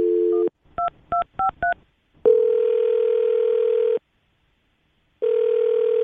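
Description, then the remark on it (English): A steady telephone dial tone gives way to four quick keypad beeps as a phone number is dialed, then a long ringing tone, a pause, and another ring begins. Clear, with no voices. “Well, I'm going to dial his phone number right now and see if he picks up.”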